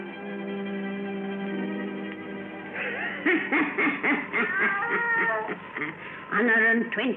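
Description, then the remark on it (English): A black cat named Satan meows loudly, a series of drawn-out, wavering yowls that follow a steady, sustained tone, the cries rising and falling unevenly toward a strong final wail. “Weird, blood-chilling tales told by old Nancy, the witch of Salem, and Satan, her wise black cat.”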